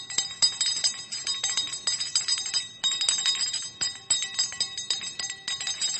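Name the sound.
bells ringing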